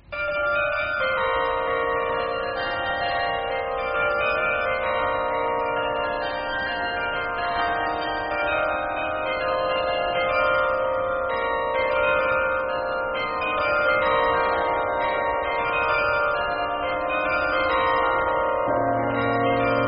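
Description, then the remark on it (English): The carillon of the National Cathedral in Washington rings out a continuous melody, many overlapping bell tones sustaining and blending into a rich, steady wash of chimes at a fairly loud, even level throughout, with no voices. “And even in Washington, unexpectedly perhaps, there were bells.”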